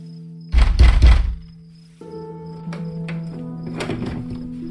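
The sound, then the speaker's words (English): A fist pounds a wooden door outdoors in a cold wind, switching from one hand to the other, in a quick cluster of heavy, booming, loud thuds, then stops, leaving a low steady hum with faint tapping. “I pounded until I thought my hand might split open, then switched to the other hand.”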